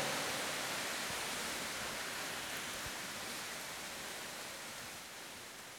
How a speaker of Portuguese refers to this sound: Chuva vem numa boa hora, né?